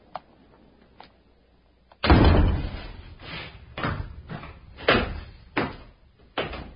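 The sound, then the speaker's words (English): A heavy prison door slams with a loud, booming crash, followed by a string of sharper metallic bangs and clanks of prison doors and gates clanging and locking at irregular intervals, after a few faint clicks at the start. “Through the dismal prison twilight, corridor by corridor, staircase by staircase, past doors and gates clanging and locking, through long chambers and full cells”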